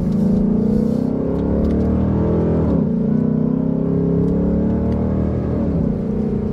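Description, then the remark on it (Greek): A car engine idles and runs at low revs with a deep, steady rumble, holding a throaty hum throughout with slight dips and swells in pitch, fairly loud, no voices. “Χαμηλές στροφές και κατεβασμένα παράθυρα και να ακούς και τον ήχο του κινητήρα.”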